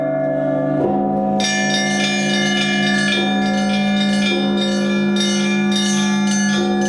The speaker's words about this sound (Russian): И вот, слава богу, здесь звучит колокольня лавры.